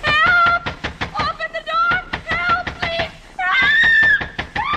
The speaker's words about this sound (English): Look, start screaming. I'll bang on the door.